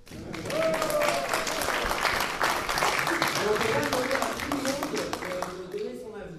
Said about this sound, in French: Le public, c'est vous. Vous pouvez nous applaudir?